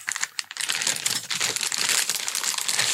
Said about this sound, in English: There's a plastic bag. It's got a little bit of bubble wrap in it. Something in there for you, you see?